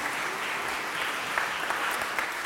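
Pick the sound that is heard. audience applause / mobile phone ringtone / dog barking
audience applause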